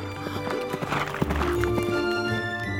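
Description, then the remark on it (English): Hooves of Daredevil, a wild black horse, clip-clop in a quick, steady rhythm, with a neigh or whinny rising over the hoofbeats partway through. “He was the only man able to ride Daredevil, a wild black horse.”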